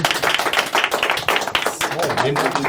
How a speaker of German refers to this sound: Applaus bitte.